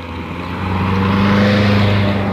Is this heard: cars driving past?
yes